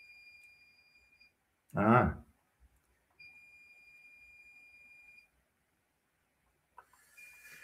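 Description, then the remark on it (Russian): A dishwasher's signal sounds as two long, steady, high-pitched electronic tones, separated by a short, loud voice-like burst, with a faint click and hiss near the end as the dishwasher door opens. “Так, извините, вы, может, слышите писк, это посудомоечная машина сигнализирует, что я немедленно должен, сейчас она, щелчок и откроет дверь.”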